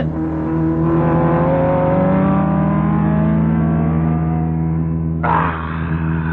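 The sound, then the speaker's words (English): A racing car engine roars loudly and continuously, its whining pitch climbing steadily as it accelerates past, then the tone shifts abruptly near the end. No voices. “He's going to pass you.”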